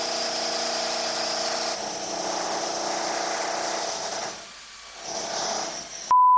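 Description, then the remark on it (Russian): An electric drill whirs steadily and loudly for several seconds, eases off briefly near the end, spins back up, then cuts to a short electronic beep. “Дрель какая классная, это ведь всего лишь твой сон. А ты сверли, сверли, сверли, по утрам тебе мозги.”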